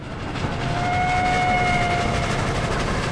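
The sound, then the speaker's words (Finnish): A train rolls along the rails, picking up speed, with a loud, continuous rumble, and a thin high tone, like a brief squeal or whistle, rises briefly in the middle. “Juna kulkee kiihtyvällä vauhdilla eteenpäin.”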